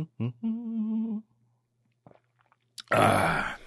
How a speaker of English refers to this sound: All right. I'll take a quick sip of water here.